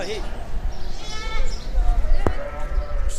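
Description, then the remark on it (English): Sheep bleat a few times amid a busy, noisy outdoor crowd at a livestock market in Baghdad, Iraq, where people buy sheep for Eid al-Adha, their wavering calls rising over a steady din of murmuring voices and low rumbling background noise. “is looking to buy sheep at markets in Baghdad to mark the occasion.”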